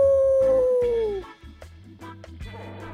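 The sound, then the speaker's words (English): A female dog named Ryu lets out a single sustained howl that slowly falls in pitch and fades after about a second, followed by some low rumbling background noise and faint movement. “You know, she likes to howl.”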